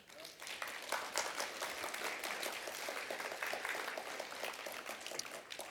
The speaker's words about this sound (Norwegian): Vi kan gi en mektig applaus for hverandre.